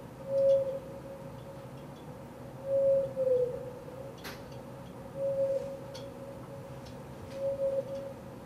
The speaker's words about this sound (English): This whale was off of Canada, and this was recorded off of Bermuda. So that gets you a sense of the depth of the voice, because if I tried to play this to you in real time, you wouldn't hear it.